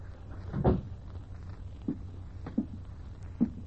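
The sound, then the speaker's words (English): A door swings shut with one solid thud near the start, followed by a few softer knocks and taps spaced through the quiet, with no talking. “Still want the door shut, Lieutenant?”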